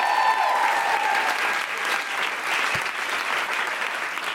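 crowd, audience applause

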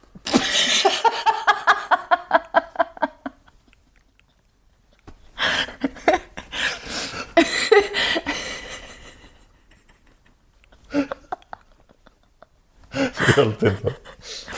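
human body sound, hiccups

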